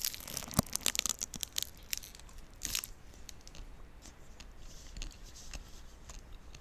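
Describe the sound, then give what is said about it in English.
A snack wrapper crinkles in a series of irregular crackling bursts, with a sharper crunch near the start and softer rustling trailing off. There is no talking. “This is my wrapper.”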